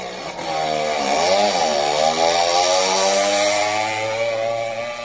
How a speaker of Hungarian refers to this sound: Hirtelen nagy berregésre lett figyelmes, belenézett a visszapillantóba, és egy tűzpiros Porsche közeledett 200-zal.